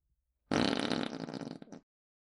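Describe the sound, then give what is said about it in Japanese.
A single loud, drawn-out fart erupts abruptly, rumbling and sputtering for just over a second before trailing off, with no voices around it. “聞こえないね。私のおならより声小さいよ。”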